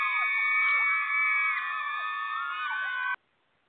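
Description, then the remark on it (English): A canned crowd cheer sound effect played on a radio call-in show for the ninth caller: a dense wash of many high, shrill voices whooping together at a steady loud level for about three seconds, then cut off abruptly into silence. “Had to do the little cheer.”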